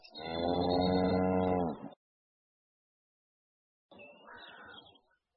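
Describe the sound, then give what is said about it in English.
A cow moos once, a long, loud, low drawn-out call, then after a pause a second, shorter and quieter lowing sound follows. “I'm going to sell this cow. I will buy this cow.”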